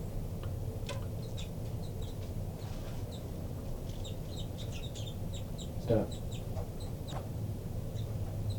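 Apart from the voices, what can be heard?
baby bird begging calls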